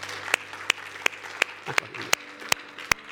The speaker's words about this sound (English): If it has, you give the Lord a hand clap of praise this morning.